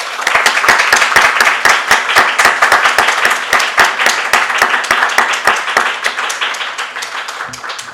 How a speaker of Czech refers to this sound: A tak bych vás poprosila o ten potlesk.